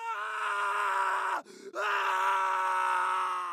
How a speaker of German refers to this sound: Als die Probanden diese sahen, begannen sie wie auf Kommando zu schreien.